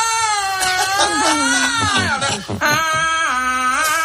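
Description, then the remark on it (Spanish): Loud crying wails from a voice, long wavering sobbing cries that rise and fall continuously for a few seconds with a brief catch in the middle, like weeping imitating a siren; a person acting out alarms crying at a funeral in a joke. “Todas las alarmas llorando.”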